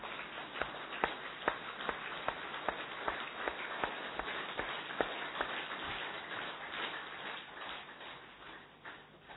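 A group at a yoga and meditation gathering claps hands, as everyone was asked to, in a steady, fairly rhythmic pattern, sharp claps landing about twice a second over a dense wash of scattered clapping, with no talking.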